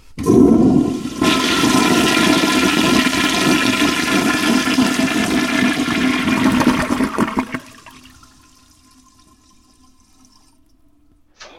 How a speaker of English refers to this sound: And now for the final part of this test, I'll flush the toilet.